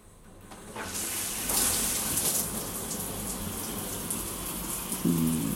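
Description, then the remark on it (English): Shower water switches on after a brief quiet start and keeps running as a steady, full hiss, with a short low squeak near the end. No one speaks. “Step into the shower with me. Come on. There you go. Let's get this water on.”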